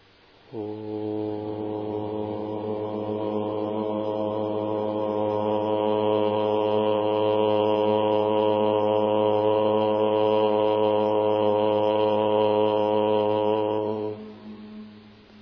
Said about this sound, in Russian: Но обычно мы в традиции учения лая-йоги вслушиваемся или в звук М, или не делаем различия между звуками, чувствуем его как одну вибрацию. Итак, мы поем первый ом.